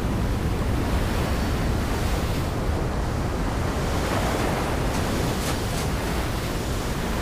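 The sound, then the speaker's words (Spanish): Ocean surf rushes steadily onto the shore, a dense, continuous roar of breaking waves with no voices, mixed with a faint gusty wind hiss. “El corto finaliza frente al mar en un abrazo entre padre e hijo.”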